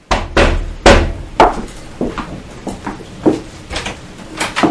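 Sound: knock on a door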